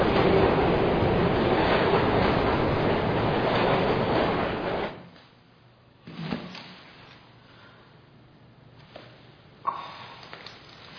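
A train departing from a station rumbles loudly for several seconds, then the noise drops away abruptly, leaving a quiet platform with a few scattered thumps and clanks.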